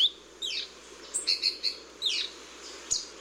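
High, thin calls of a saberwing hummingbird: sharp downward-sweeping chirps and a quick run of short squeaky notes, moderately loud over a steady faint hiss, with no talking.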